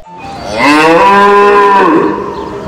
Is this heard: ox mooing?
yes